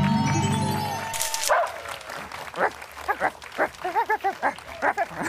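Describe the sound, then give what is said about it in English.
A sustained musical chord cuts off into a sharp crash, followed by a rapid string of roughly a dozen loud dog barks and yips in quick rhythm, used as a segment sound effect. “It's a tradition for us, and it's called the doggy bag.”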